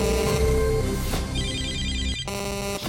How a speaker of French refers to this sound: Vous êtes sur le répondeur d'Africa Radio. Après le bip, c'est à vous.